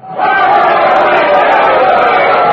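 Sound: crowd noise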